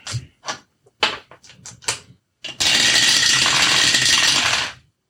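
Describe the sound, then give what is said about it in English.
Dice clatter down a dice tower during a tabletop game: a quick run of sharp clicks and knocks, then a loud, sustained rattling clatter for about two seconds before it stops. Loud, no talking. “It is the end of the day of the loud ass dice tower.”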